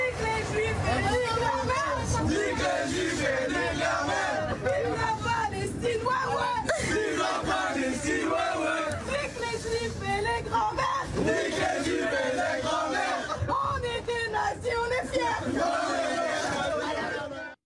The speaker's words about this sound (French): Vincent, ce matin, vous voulez nous faire écouter une vidéo filmée hier dans une rame du métro parisien, des jeunes gens qui chantent en mode vestiaire sportif.